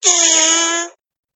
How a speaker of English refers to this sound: Your phone will fart for you, ladies and gentlemen. you can blame your phone for farting. Did you know that? If you have Google Assistant and you start talking about farts, it'll fart for you.